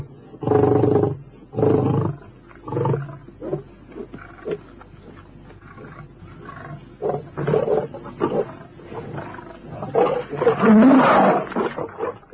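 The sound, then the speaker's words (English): Several lions, including an old battle-scarred male, roar and snarl in a fierce fight, with loud bursting growls at the start that ease into rumbling, then surge again into a chaotic snarling clash near the end. “The younger lion, sobered by the old boy's ferocity, keeps his distance.”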